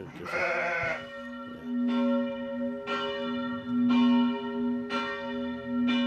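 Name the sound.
abbey church bells ringing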